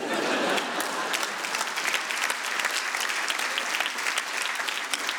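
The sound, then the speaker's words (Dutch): Steady applause from an audience, a dense wash of many hands clapping at once, fairly loud and sustained without pause for about five seconds, with no one talking over it. “En normaal krijg ik hier applaus.”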